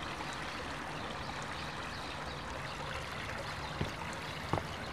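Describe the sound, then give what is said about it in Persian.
Steady water sloshing and lapping around a boat, a continuous wash with two brief knocks near the end, like a hull bumping. No voices. “ببینم راستی چرا ما تو خاطرات تو قایق بودیم؟”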